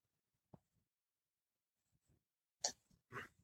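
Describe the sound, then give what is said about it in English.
A dog barks faintly in the background, a few short, sharp yaps spaced out over a mostly quiet background, with two barks close together near the end. “And I did not know the dog was barking in the background.”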